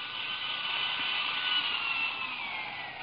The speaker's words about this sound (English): With a tiny drill, Schwartz bored an almost invisible pinpoint hole in one of the glassy folds of the dress. Then, Schwartz withdrew the needle carefully, straightened up.